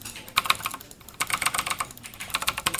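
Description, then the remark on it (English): Rapid, uneven clatter of computer keys being typed, with sharp mouse clicks mixed in, by an esports team at Indiana Tech, fairly loud, pausing briefly before resuming in quick bursts with no voices. “Clicking, typing.”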